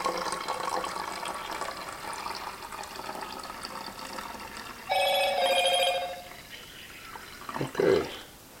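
Film stop bath pours steadily into a bottle, then a short bright electronic chime rings out for about a second, a phone message alert sounding over the pouring.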